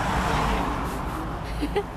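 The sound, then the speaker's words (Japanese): Steady roadway rumble of cars and trucks, a dense low wash of engine and tire noise with a brief faint voice near the end, heard while moving past idling cars at about 30 km/h. “今トラックとか通り過ぎてるんじゃなくて、僕らが通り過ぎてるからね。”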